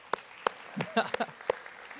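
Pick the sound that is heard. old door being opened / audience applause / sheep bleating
audience applause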